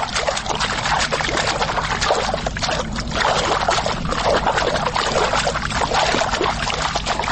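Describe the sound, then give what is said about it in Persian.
Spring water, coming out from under the ground, flows in a steady, continuous rush, fairly loud, with a bubbling, splashing texture that never pauses. No voices are heard. “شنونده های عزیز، انانه چشمه رفتن در افغانستان سابقه طولانی دارد و چشمه جایی است که آب از زیر زمین بیرون شود و روان گردد.”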